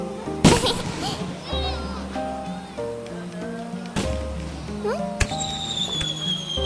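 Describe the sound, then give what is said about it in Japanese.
Fireworks are launched at a festival: a loud, sharp burst near the start, then two more cracking bangs later, one right after a rising launch whistle, over a steady festive background with faint voices and tones. “あ、花火この時間の打ち上げだったんだね。きれい。”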